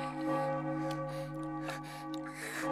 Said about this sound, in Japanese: 祝福の鐘の鳴り響く中、何度も絶頂し続ける。